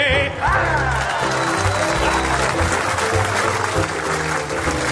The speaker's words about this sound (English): it's not often there's an audible hiss from the crowd because the pun was so awful, but I love those. They're so creative. Yeah, I think a good groan is as good as a good laugh.